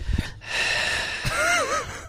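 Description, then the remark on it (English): Someone imitates heavy, raspy breathing into a phone during a call, one long drawn-out wheezy breath with a brief whistling squeak near its end, preceded by a soft thump. “somebody just breathed into the phone.”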